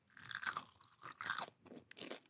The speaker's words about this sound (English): Wow, this sounds so satisfying. Yeah. So I made this right before we started taping. I feel like you nailed the frying. It really had a good crunch, given that it's got some cheese inside of there. It's got a great crunch outside.